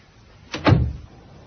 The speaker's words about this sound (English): Outside with him. And let's shut the damn door.